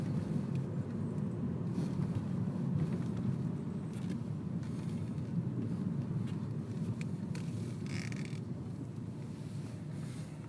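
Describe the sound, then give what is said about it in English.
Cars on a twisting road descending a hill make a steady, low rumble that fills the whole stretch without letting up, with a brief hiss of tires or wind near the end. Nobody speaks. “Past cars.”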